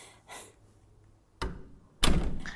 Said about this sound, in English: I hear him unlocking the front door. We should go.